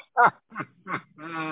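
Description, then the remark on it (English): Chickens clucking: three quick, raspy clucks in a row, then a longer drawn-out squawk that holds steady. Moderately loud, with no one speaking. “Hey, the chickens are around.”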